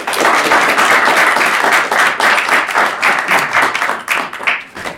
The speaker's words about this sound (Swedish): Men i övrigt så vi har gärna en applåd